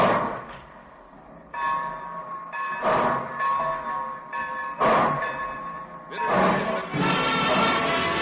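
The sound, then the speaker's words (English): A train starts pulling away, with heavy bursts of steam or chugging and a ringing, bell-like tone running underneath. The sound builds in loudness toward the end, with no voices. “Well, it looks as though we're ready to pull out.”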